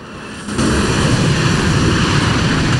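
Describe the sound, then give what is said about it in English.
A train speeds past on the opposite track, its roar cutting in abruptly after a brief quiet moment and holding as a loud, steady, low rumbling wash of noise with no voices. “His face crumples into tears as a train speeds by on the opposite track.”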